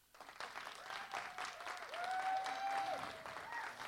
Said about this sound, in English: Happy Father's Day. Will you have a hand clap?